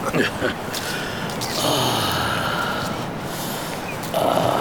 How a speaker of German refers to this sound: Atmen Sie tief ein und lassen Sie die Seeluft durch Ihre Lungen durchpusten.